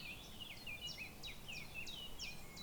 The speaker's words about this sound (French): Alors là, on a entendu un oiseau qui fait chip-chap, chip-chap, chip-chap. Il s'appelle le pouillot véloce. C'est assez rigolo parce que c'est quand il y a des chants d'oiseaux dans un film, sur la bande-son, on entend toujours le pouillot véloce.